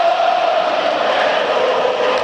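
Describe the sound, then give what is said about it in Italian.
Football fans in the curvas of the Tardini stadium, mostly Inter supporters, chant in unison during a Parma versus Inter match, a dense, steady roar of many voices holding a sustained droning pitch, loud and unbroken for the whole couple of seconds. “sentite gli effetti del Tardini, corre dall'una e dall'altra curva, vista la nostra postazione verso la curva sud, il nostro microfono pesca maggiormente quelli dell'Inter, ma vi garantiamo anche una curva nord assolutamente calda.”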